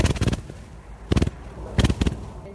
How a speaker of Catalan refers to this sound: Pareu atenció, aquest és el so que generen 150 quilos d'arròs del Delta de l'Ebre.